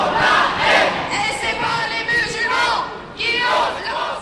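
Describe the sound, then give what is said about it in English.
A large crowd of thousands of marchers protesting against Islamophobia in the rainy streets of Paris, France, chants and shouts together in loud, rhythmic surges, many voices blending into a dense roar that swells and dips in waves. “Thousands of people marched in Paris and other French cities against Islamophobia, targeting Western Europe's largest Muslim population.”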